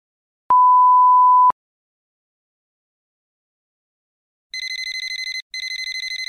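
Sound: telephone ringing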